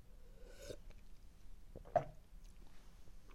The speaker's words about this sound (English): So let me take a sip of my generic Sunny D type orange juice.